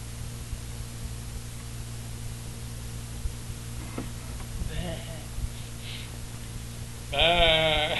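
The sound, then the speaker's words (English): A voice imitates a calf bawling as it is being weaned, one loud, wavering, bleat-like cry arriving abruptly near the end after a stretch of steady low hum and a few faint, brief vocal sounds. “What kind of noise does a calf make when it's being weaned?”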